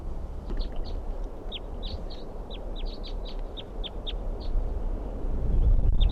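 A wild Type 2 crossbill, a lone orange male at a campsite responding to decoys, gives a rapid series of short, sharp, high-pitched chip calls, repeated over and over above a steady low rumble of background noise.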